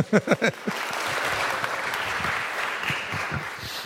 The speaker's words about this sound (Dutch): Ze loopt weer rechtop, dat is al een applaus waard.